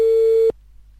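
A single steady telephone tone sounds for about half a second while a phone call is being transferred, clear and fairly loud, then cuts off abruptly into silence. No one speaks.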